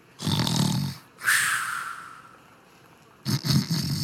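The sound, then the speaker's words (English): Loud snoring with no talking: a deep rattling inhale, then a long airy whistling exhale, and a second throaty snore starting as it ends, from a bearded conductor asleep on the ground of a trolley platform, his back propped against a wall. “His uniform is unbuttoned with his belly hanging out, and you hear snoring sounds.”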